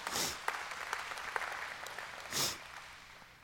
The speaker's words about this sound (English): Amen. Give God a hand clap.